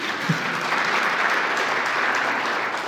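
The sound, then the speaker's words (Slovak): An audience claps steadily to welcome African students, a dense, even wash of many hands that stays at a constant loudness for a few seconds without any voices over it. “A jsou tu přítomně i další afričtí studenti, tak rozptýlení jsem si všiml, takže i je vítáme a můžeme jim také zatleskat.”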